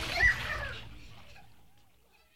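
A short burst of water splashing in a lagoon or river, loudest at the start and then fading into a soft, lingering slosh with no voices over it.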